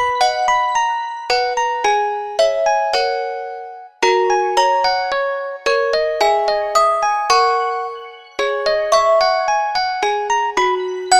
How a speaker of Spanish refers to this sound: Señora Tortuga recogiendo su casa cuando sonó el timbre de la puerta.